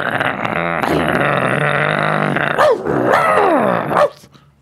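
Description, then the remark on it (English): A person on an internet radio show imitates a dog as a weekly address to dog listeners, trying to rile them up. It starts with a long, rough, loud growl, then breaks into a few yelping barks that swoop up and down in pitch before cutting off. “Should I do my weekly address to the dogs?”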